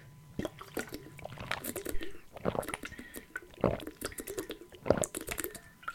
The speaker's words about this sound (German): Ich muss erstmal einen großen Schluck Wasser trinken, fällt mir gerade so auf.